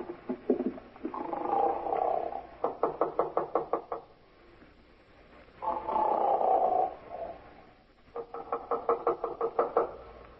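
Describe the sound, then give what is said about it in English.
A man at number 9 snores loudly through two full breaths, each a rough, buzzing drawn-out rumble followed by a quick run of rattling, fluttering pulses, with no talking. “Guy snoring up a storm at 9.”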